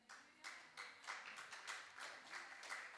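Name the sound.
faint audience clapping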